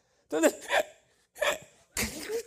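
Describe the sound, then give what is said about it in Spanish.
A voice imitates a hiccupping, half-sobbing whimper, called jirimiqueo in Chihuahua, like hiccups, neither quite crying nor not: three short, catching bursts with breathy, quavering pitch, separated by brief pauses, fairly loud. “Cuando la gente lo maldice, como que tiene hipo, ni llora ni no llora.”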